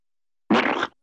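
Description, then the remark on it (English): A single short, wet squelching squirt, like glue being squeezed from a bottle, fairly loud, lasting under half a second with silence around it. “Glue.”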